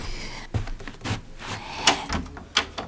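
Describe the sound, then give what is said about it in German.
A room door's latch is worked open with a plastic card: a few scraping clicks and knocks, then a sharp click as the latch gives, with no talking. “Und diese Tür lässt sich ganz einfach mit einer Plastikkarte öffnen, nicht wahr,”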